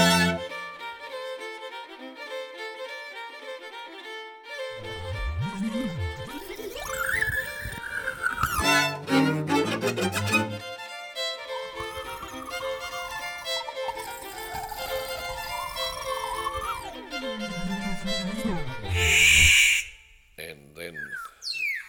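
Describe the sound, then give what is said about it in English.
A lyrebird sings flute-like tunes: clear whistled notes that rise, fall and slide between pitches, broken by buzzy, chattering bursts and ending with a sharp, bright high note. “So it learnt to sing the diatonic scale and a couple of tunes.”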